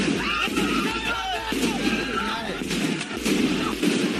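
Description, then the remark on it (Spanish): Several sharp gunshots of live fire crack out at irregular intervals over a loud, chaotic crowd at protests against the military coup in Myanmar, with voices shouting and clamoring throughout. “Disparos, fuego real.”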